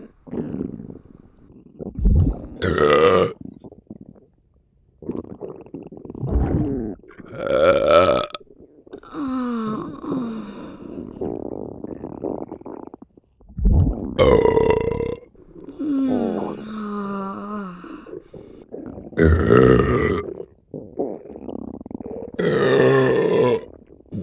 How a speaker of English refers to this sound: God, you're so hot when you burp.